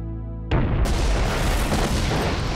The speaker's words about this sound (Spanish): La explosión destruye la parte trasera del avión. Luego explotó y creó un hoyo en el suelo y toda el área se incineró, formándose una bola de fuego que atravesó la nave.